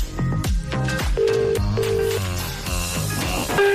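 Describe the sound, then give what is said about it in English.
A telephone ringback tone sounds as short paired buzzing bursts over steady background music while a call is being placed, with no one speaking. “It's ringing.”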